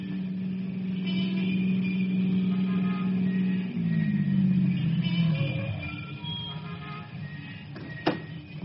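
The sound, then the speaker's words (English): A blue convertible's engine hums steadily, then winds down in pitch as the car pulls up to a nightclub and comes to a stop, followed by quiet and a single sharp click near the end. “He smiles as he guides his car to the Castle Club, a night spot that the columnists would call torrid.”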